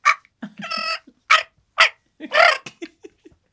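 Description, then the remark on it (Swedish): A voice imitates a dolphin: a rapid string of squeaky, whistling chirps broken by short clicks, several bright bursts in quick succession with no speech around them. “Jag ska försöka hämma en delfin också.”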